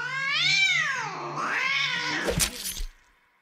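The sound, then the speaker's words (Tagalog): A cat lets out a long, drawn-out yowl from behind an apartment building, wavering up and down in pitch, breaking into a harsh, rough snarl before fading. Loud, with no one talking. “Pero sa pangalawang gabi, narinig ko uli ang palahaw ng natitirang pusa mula naman sa may likuran ng apartment.”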